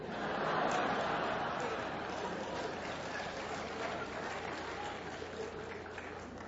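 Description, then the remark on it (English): An audience applauds steadily for several seconds, a dense wash of many hands clapping at an even, sustained level that tapers off only slightly toward the end. “I'm worried about those of you that didn't clap on that one.”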